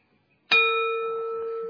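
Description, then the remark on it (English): A single gong strike rings out sharply after a brief silence, its bright metallic tone sustaining evenly and fading only slightly over the following second. “And I often reflected what would have happened if the Buddha was sitting under the Bodhi tree and somebody suddenly went gong and it would never got enlightened.”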